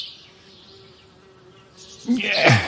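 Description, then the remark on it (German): Bees buzz over a meadow on a sunny afternoon in a soft, steady drone that stays faint and even, then swells suddenly louder near the end as a brighter, busier burst of buzzing passes. “Die Bienen summen auf der Wiese und die Vögel zwitschern.”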